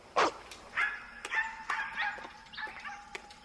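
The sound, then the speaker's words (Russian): A street dog gives one sharp bark, then keeps up a run of high whining yelps with short yips scattered through, with no voices. “Не дружите с этими уличными собаками. А ты пошел вон, плохой.”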